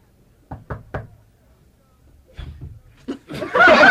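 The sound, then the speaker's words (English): Three quick, sharp knocks on a door, fairly loud, then a pause before murmuring voices and a burst of laughter rise toward the end. “after he knocks, you open the door, but don't close it.”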